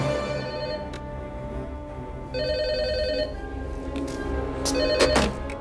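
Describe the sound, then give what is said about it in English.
A telephone rings with a bright, electronic trill, its tone repeating in steady bursts over a low background hum, clear, with a few sharp clicks near the end. “The phones are working.”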